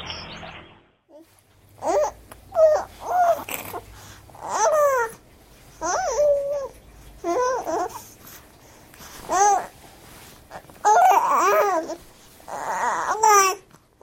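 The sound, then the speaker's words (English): A baby girl babbles a song in a sing-song way, a string of short pitched vocal bursts rising and falling with brief pauses between them, clear with no adult talking. “Pretty good singing.”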